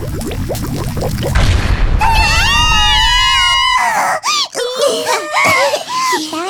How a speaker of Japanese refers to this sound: ひどい目にあったわ。なんで料理なのに爆発するのよ。